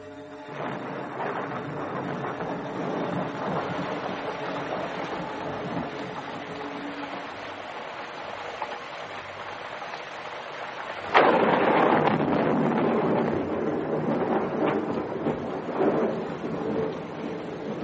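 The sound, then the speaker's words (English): At night, a steady rumbling wash of storm noise gives way to a sudden sharp, loud crack of thunder from a lightning bolt striking somewhere close, followed by a heavy sustained roar that slowly settles. No one speaks. “I was instantly awake and knew that a bolt had fallen somewhere close.”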